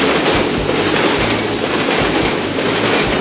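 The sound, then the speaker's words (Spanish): Steady, loud rumbling noise of a train station, with a low rhythmic clatter of rail cars rolling past and no voices. “Gladys Aylward visitó nuevamente la estación de trenes”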